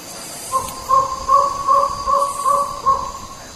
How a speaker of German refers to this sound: Bis auf das, was für mich nach einem Vogelruf klingt, wirken die Geräusche ein bisschen unspezifisch.